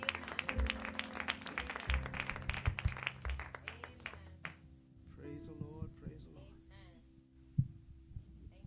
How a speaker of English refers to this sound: Praise the Lord. Let's give our God a hand clap of praise. Amen.